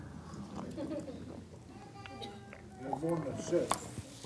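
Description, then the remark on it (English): Quiet sipping of water, with soft mouth clicks and a couple of gulping swallows toward the end; no one talks. “And I'm going to explain to you why after I take a sip of water.”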